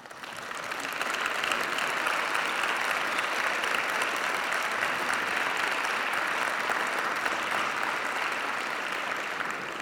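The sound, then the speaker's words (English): An audience applauds the jury of the Bob's Awards steadily for about ten seconds, the clapping swelling within the first second into a dense, even roar of many hands, then holding loud throughout with no voices heard. “Let's give a round of applause to our jury for the Bob's Awards.”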